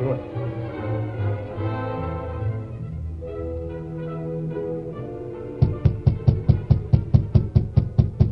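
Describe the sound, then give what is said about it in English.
Orchestral music plays, then gives way to a rapid, steady run of about a dozen loud knocks on the rear door of Floyd Duval's house in a Lone Ranger radio drama, evenly spaced and sharp, continuing to the end. “Floyd Duval hesitated before answering the rap on his rear door.”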